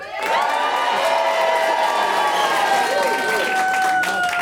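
A studio audience cheers to vote that Willy Wonka would be a better apprentice. The cheering is loud and continuous, a dense wash of shouts, whoops and high-pitched screams with some clapping, sustained at full volume for several seconds.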